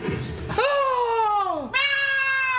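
A cat gives a long, drawn-out meow that slides downward in pitch, then immediately starts a second meow. Both are loud and close, with a brief breathy rustle just before the first.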